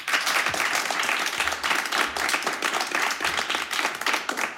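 An audience applauds steadily, many hands clapping in a dense, continuous patter that stays fairly loud throughout, with no one speaking over it.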